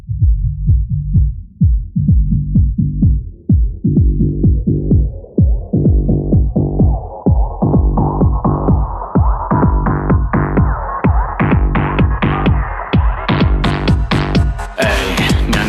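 A song plays with a steady, thumping bass-heavy beat at about two pulses per second, gradually brightening and building as higher tones sweep in toward the end, with no vocals yet.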